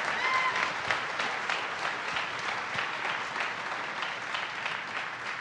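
An audience applauds steadily, a dense wash of many hands clapping at an even, fairly loud level throughout, with a few faint whistles near the start and no one talking over it.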